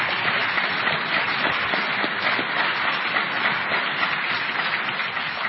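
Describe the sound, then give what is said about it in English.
An audience breaks into sustained applause for a California justice seated in the front row, a dense, steady wash of clapping hands that stays loud and even for several seconds with no voices standing out. “You ought to give him a lot of applause.”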